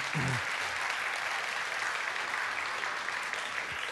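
A room full of people claps steadily, a dense, sustained wash of applause that holds at even loudness for several seconds, with a brief voice sound at the very start.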